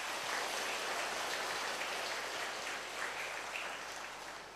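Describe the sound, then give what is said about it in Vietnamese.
A crowd applauds in a steady, dense wash of clapping that holds for several seconds and then begins to ease off toward the end. No voices are heard. “Nếu quý vị thấy Đức Kim Tôn là cần thiết cho con người và phải nỗ lực làm cho bằng được, thì hãy dâng cao tràng pháo tay để cam kết.”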